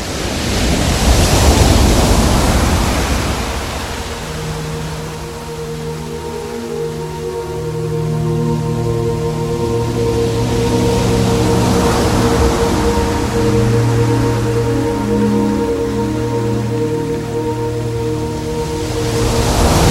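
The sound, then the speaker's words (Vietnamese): Loud, continuous surf roars and swells in broad washes while wind howls steadily over it, with low droning tones running underneath; no voices are heard. “Chim bay qua biển rộng thì sóng gió thét gào như muốn nhận chìm tất cả.”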